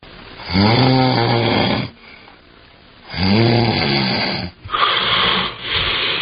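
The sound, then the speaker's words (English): A person snores loudly in long, harsh rasping breaths, with a quiet pause between the first two before the snoring resumes, ending in choppy, uneven breathing. “Sleep apnea is a condition where breathing is briefly and repeatedly interrupted during sleep.”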